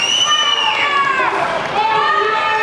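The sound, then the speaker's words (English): A large crowd screams and cheers loudly and continuously for an encore as taiko drummers give their final bow at a dance festival in Bethel, many high, overlapping voices rising and falling together in a dense, sustained roar that fills the whole clip. “As they give their final bow, the crowd screams for an encore.”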